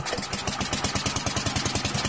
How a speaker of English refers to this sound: These days, the sound of water delivery trucks echoes through the streets, a boon for private water companies, but a sign of how fragile the water supply has become.